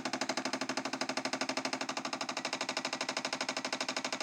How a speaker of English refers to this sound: You can hear it clicking. What it's doing is working out what drink I've put in the machine, what pod. It reads the barcode on it. And it's heating up the water as well.